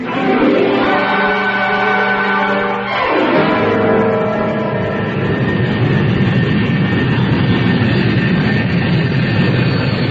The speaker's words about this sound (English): Well, there it goes. Bye-bye, Rodney. I had to see that plane in the sky before I'd leave.